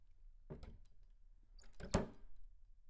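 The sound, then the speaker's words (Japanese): A key works the lock of an apartment room door with a few metallic clicks and rattles, then a louder clunk as the door opens, with no one speaking. “君が鍵を開けていいんだよ。”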